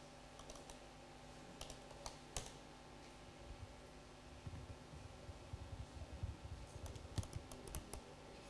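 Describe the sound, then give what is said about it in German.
Scattered presses of the Tab key on a computer keyboard, moving through program items and links on a web page, with a few sharp clicks early on and another cluster near the end, fairly quiet over a low steady hum with no one talking. “Nämlich zum Beispiel das Wandern mit der Tabulator-Taste durch die einzelnen Programmpunkte bzw. Links.”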